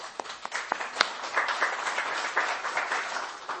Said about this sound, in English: See, all that clapping does nothing but upset her. She says, I'm not here for the applause.